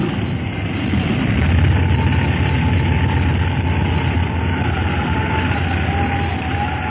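A small airplane makes a dead-stick landing in a windstorm on an unfamiliar landing field, a loud, steady roaring rush with a deep low rumble underneath, continuous for the whole stretch, with no voices.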